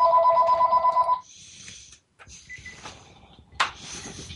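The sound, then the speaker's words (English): A telephone rings loudly, a bright electronic trill lasting about a second, followed by softer clicks and faint ringing tones that fade in and out before a sharp click. “I'm sorry, we have a persistent individual trying to get us on the phone.”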